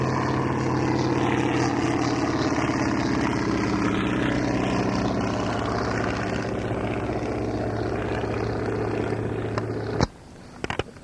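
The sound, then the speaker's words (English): A Porterfield propeller airplane roars past on a low flyby, its engine a loud, steady buzzing drone with a throbbing tone, holding for about ten seconds before cutting off abruptly. “Walker UPF, low flyby.”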